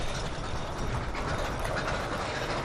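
The Dahlonega Mine Train roller coaster at Six Flags Over Georgia rattles along its track with a steady, dense rumble and clatter, fairly loud, continuing without pause and with no voices.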